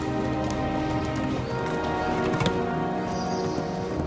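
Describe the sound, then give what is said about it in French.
Horse hooves clip-clop at a steady walking pace as Napoleon rides the horse, with a continuous rustling, rain-like texture underneath and one sharper knock midway. No one speaks. “Vous ne descendez donc jamais de votre cheval, sire ?”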